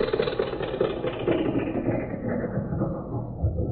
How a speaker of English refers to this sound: Hey, here comes a car. What do you say, let's thumb a ride and save a nickel on the school bus, huh?